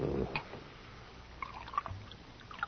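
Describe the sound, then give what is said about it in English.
A drink being poured, quiet liquid splashing and gurgling into a cup in short irregular bursts, soft, with no one talking. “Now, you drink, huh? Of course. Will you pour for me?”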